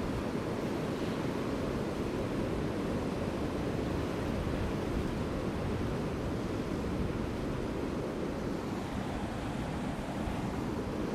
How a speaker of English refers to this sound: I'm standing right at the shoreline. I've got the surf coming in. White waves breaking everywhere.